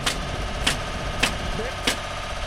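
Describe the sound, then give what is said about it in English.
A heavy construction machine in the tornado-hit town of Phil Campbell runs at a steady, low rumble, broken by four evenly spaced sharp clanks about every half second. No one speaks. “Sounds of construction are music to Phil Campbell Police Chief Merrill Potter's ears.”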